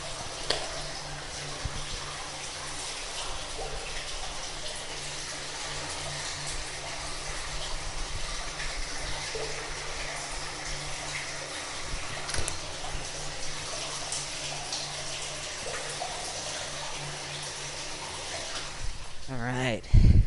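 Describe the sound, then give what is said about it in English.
Water rushes steadily through a storm drain after rain, a dense, unbroken hiss and gurgle that holds at an even loudness for the whole stretch, ending with a short low thump. “Probably getting bored of storm drain sounds by now.”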